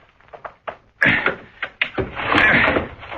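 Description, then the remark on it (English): Scraping, creaking and knocking as a window with its shade down is pried open with a little piece of steel, short clacks building into a longer grinding strain before it gives. No one speaks. “Let's work on this window here. Get in that way. The shade's down, so we can't see inside, but I've got a little piece of steel that'll get us inside.”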